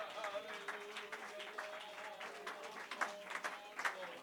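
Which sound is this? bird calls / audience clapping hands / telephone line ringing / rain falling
audience clapping hands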